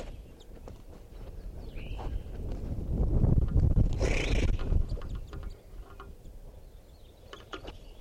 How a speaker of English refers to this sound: I'm right underneath the tree that a bunch of crossbills are in, and they're coming down for water.